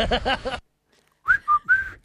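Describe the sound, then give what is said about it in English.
A brief voiced sound, a short pause, then someone attempts a whistle by sucking air in rather than blowing out: three breathy, airy tones that waver in pitch and sound uneven and strained. “Whistle, you blow out. I suck in. It doesn't work.”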